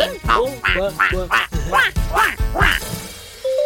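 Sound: people imitating duck quacks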